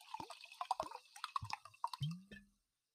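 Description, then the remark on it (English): Water is poured from a freshly opened, fancy bottle in a quick series of wet glugs and splashes over about two and a half seconds, ending in a short trickle, with no talking. “Here, pour me some of that, please, sir.”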